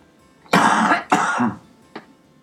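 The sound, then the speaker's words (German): Two loud, rough bursts of coughing and throat clearing in quick succession, followed by a short, softer clearing sound. “Man muss sagen, dass man mal husten.”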